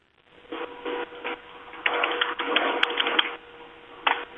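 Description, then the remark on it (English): Rapid keyboard typing comes in clattering bursts: a short run, a longer busy stretch, then a brief final flurry of keystrokes. It sounds slightly muffled, and no one speaks. “I don't know what you're typing, but it's scaring me.”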